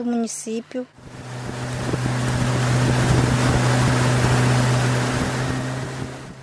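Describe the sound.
A motorboat engine drones steadily with a strong low hum while water rushes and wind noise fills the background, as an indigenous organisation's boat travels on the Rio Negro in Brazil; a brief burst of speech is heard at the very start.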